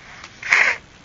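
A single short, breathy nose blow from a child, a gust of air lasting under half a second against a quiet background, with no talking.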